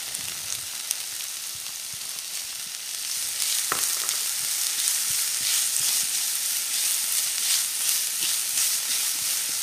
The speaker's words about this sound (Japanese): フライパンにサラダ油とニンニクを入れて熱します。ニンニクのいい香りがしてきたら玉ねぎを入れて炒めてください。